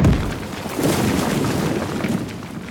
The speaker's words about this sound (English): Oh no! Look! A big rock! We climb into the boat. We're in the boat for an hour. Suddenly, our boat hits a rock.